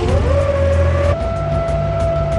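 A jet-powered car's turbine engine starts up, its whine rising in pitch and then holding a steady, loud tone over a constant roaring rumble, with no talking.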